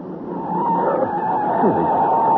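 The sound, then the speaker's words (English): A car skids as its brakes and handbrake fail to hold, with a sustained tire screech over a roaring engine rumble, loud and continuous for a couple of seconds, with a brief wavering squeal partway through. “Brakes aren't holding right.”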